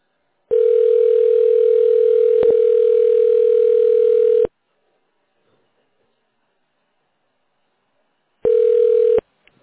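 A telephone ringing tone on the line while waiting for an operator to answer: one steady, low, buzzy tone holding for about four seconds, a few seconds of silence, then a shorter burst of the same tone. No voices.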